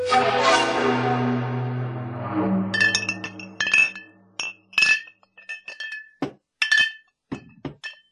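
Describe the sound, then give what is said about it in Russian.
Glass vodka bottles clink against each other as they are laid one on another inside a refrigerator, in a string of bright, irregular chinks and soft knocks, following a few seconds of steady low droning tone. “Бутылки лежали внутри, как прозрачные рыбы. Затаились и перестали позвякивать, но штук 10 все еще оставалось.”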